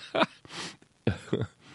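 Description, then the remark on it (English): A person coughs in a short fit: three harsh, throaty bursts, the last two in quick succession, with loud breathy gasps for air between them and no talking. “I'm sorry, and I coughed in your ear.”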